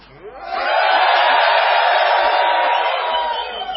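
A group of people yells and whoops together in one sustained, loud burst of shouting that rises quickly, holds for a few seconds, then begins to fade.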